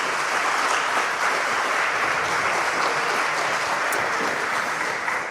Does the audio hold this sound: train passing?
no